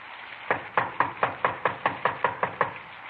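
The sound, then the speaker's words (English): A quick, steady run of about ten knocks on the wooden front door of a small redwood house in the San Fernando Valley, in the rain, evenly spaced, with no voices, just a quiet background hum between the raps. “Better try it again.”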